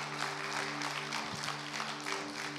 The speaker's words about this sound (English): Why don't we give her a round of applause to encourage her?